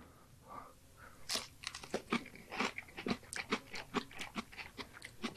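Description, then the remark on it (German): Crisp crunching as something brittle is bitten and chewed, a rapid irregular run of sharp cracks building over a few seconds, with no talking. “Finde ich ja immer unangenehm, so Leute, die so einen Podcast irgendwie essen, schmatzen, Essgeräusche machen.”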